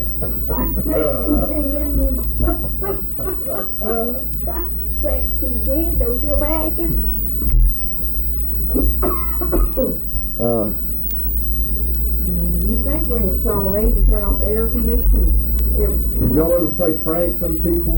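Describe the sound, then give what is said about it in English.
An air conditioning unit hums steadily with a deep, constant drone that runs the whole time, sitting low beneath people talking. “You think we're in a strong age to turn off the air conditioning?”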